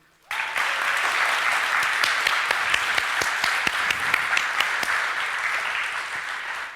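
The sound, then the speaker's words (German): An audience at an anniversary weekend event breaks into sustained applause, a dense wash of many hands clapping that starts abruptly and holds steady at a fairly loud level for several seconds. “Ich denke, das hat auf jeden Fall noch mal einen extra Applaus verdient.”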